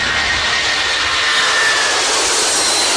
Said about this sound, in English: It all starts with the engine. This plane's about to get going. The pilot is turning the ignition. The engine mixes fuel with air and burns the fuel to release energy.